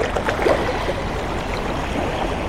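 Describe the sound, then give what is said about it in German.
Steady water ambience by the sea, a continuous wash of moving water with soft gurgles and splashes at moderate level, no voices present. “Und wenn ich hier draußen in der Natur bin, am Meer, so wie heute, wird mir das besonders deutlich.”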